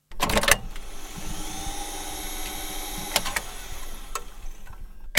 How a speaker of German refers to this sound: Nebst dem charakteristischen Klang, den analoge Bandmaschinen produzieren, kommt aber auch hinzu, dass das Geräusch des laufenden Bandes und das Drücken der oft schweren Tasten etwas Anmutendes hat